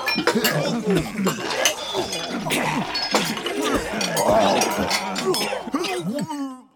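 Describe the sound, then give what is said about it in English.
A dense, layered crowd of people gagging and retching over one another, made from office coworkers recorded gagging in many different ways and pieced together, with wet choking noises, sharp clicks and throaty bursts running continuously at a fairly loud level before cutting off abruptly. “So I grabbed a bunch of people around the office, and we recorded ourselves gagging in lots of different ways. And then I kind of pieced it all together into a crowd.”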